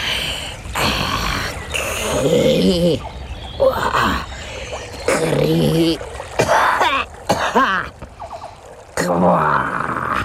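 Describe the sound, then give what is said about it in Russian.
A human voice imitates the toad Rozitta coughing and creaking like old wood: hoarse, croaky throat-clearing bursts and drawn-out groaning creaks in short, fairly loud spurts with brief pauses. “Жаба Розитта закашляла, заскрипела, как старое дерево.”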